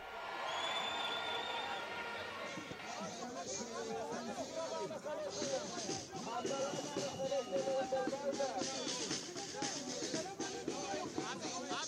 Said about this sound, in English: The crowd in Tel Aviv swelled to more than 80,000 people despite rainy weather there. Demonstrators, many covered by umbrellas, held signs and chanted slogans like criminal government or the end of democracy.